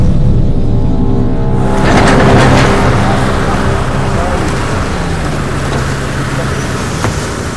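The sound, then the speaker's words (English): A car engine runs steadily, its low droning hum constant throughout, with a broad hissing wash swelling in after a second or two, much like rain, and faint voices beneath. “Sir, turn the engine off.”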